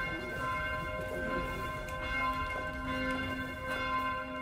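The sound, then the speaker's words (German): Church bells ring steadily for midday prayer from the towers of a church overlooking Vienna, Austria, their overlapping tones sustained and resonant throughout, with a faint low rumble of outdoor ambience beneath and no voices. “Sie läuten von den Türmen dieser wunderschönen und herrlich verrückten Kirche mit ihrem erhabenen Blick über die Stadt Wien.”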